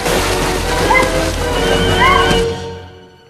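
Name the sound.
water sloshing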